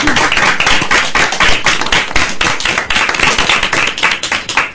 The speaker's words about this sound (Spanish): Pues vamos así. A dar un aplauso.